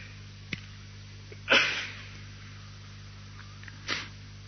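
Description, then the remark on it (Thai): A sharp, breathy sneeze bursts out, followed a couple of seconds later by a softer second sneeze or sniff, over a low steady hum. “ที่จามอยู่นี้ก็ไม่เที่ยงนะท่านจริงๆผมเองก็ไม่อยากจะจามนะแต่ห้ามเขาไม่ได้ห้ามเขาไม่ได้อยากจะจามเอง”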